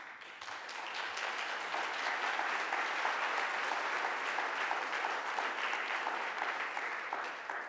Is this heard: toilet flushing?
no